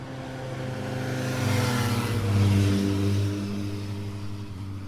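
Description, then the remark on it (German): Engine noise from traffic passing on the winding L101 road on a fine Sunday afternoon: motorcycle after motorcycle with cars in between, swelling as vehicles draw near and go by, with a steady low rumble and a louder pass in the middle. “Ein Motorrad nach dem anderen, dazwischen Autos.”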